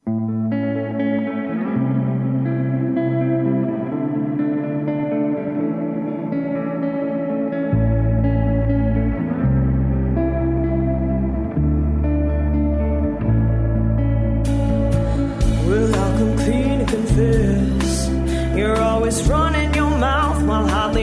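An indie rock song plays with no vocals yet: heavily effected, chorus-washed guitars over a steady bass line, then at about eight seconds drums and fuller bass kick in, with bright cymbals joining around fifteen seconds.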